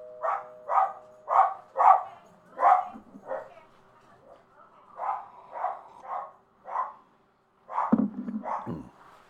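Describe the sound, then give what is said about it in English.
A dog barks repeatedly in short, sharp bursts, about a dozen barks in uneven clusters with brief pauses, moderately loud, ending with a few lower, throatier yelps. “One moment while the dogs finish their barking.”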